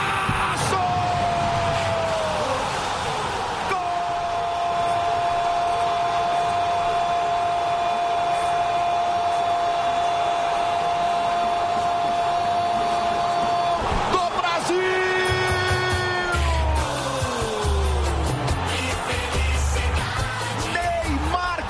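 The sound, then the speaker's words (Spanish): Goal celebration effects from the radio station Joven Pan for Neymar's goal in the Brazil 2, Croatia 0 friendly: a long, loud sustained electronic tone held for several seconds, then a burst of rapid pulsing and a swooping tone sliding downward in pitch, over a constant noisy roar. “Está la emisora Joven Pan, que lleva años haciendo estos sonidos en los goles.”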